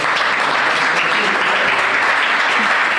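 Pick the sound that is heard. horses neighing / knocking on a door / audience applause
audience applause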